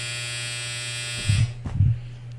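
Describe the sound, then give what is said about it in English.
A clothes dryer buzzer drones with a steady, harsh electric buzz that stops after about a second and a half, followed by a couple of soft low thuds. “Goddamn dryer.”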